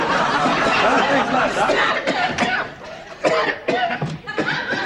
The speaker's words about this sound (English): Say, you better get a doctor to look and see about that cough, Doc.